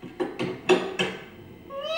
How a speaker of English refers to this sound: Meow.